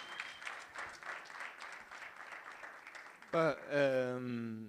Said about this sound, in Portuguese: É, yeah, palmas aí.